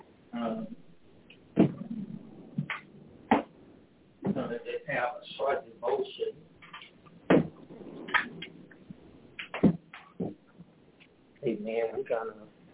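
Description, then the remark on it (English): A few sharp knocks and thuds as a door is pushed shut during an evening Bible study gathering, among ongoing murmured talking and shuffling sounds. “Let me shut this door for the door.”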